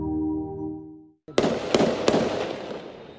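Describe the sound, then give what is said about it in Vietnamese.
A short musical tone cuts off, then three or four sharp gunshots crack out at uneven intervals over a rough, rumbling outdoor background, loud, during night clashes between Israeli soldiers and armed Palestinians in central Jenin, West Bank, as Israeli bulldozers destroy roads and infrastructure. “Tiếng súng vang lên khi xe ổ đất của Israel phá hủy đường xá và cơ sở hạ tầng khi cuộc tấn công kéo dài 6 ngày của Israel vào thị trấn bờ Tây”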